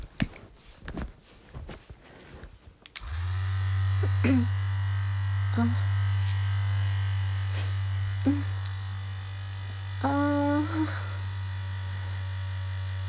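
After a few seconds of soft rustling, a loud, steady low-pitched buzz of a vibrating electric massager held against the clitoris during masturbation starts and continues to the end, with a few brief faint sounds over it.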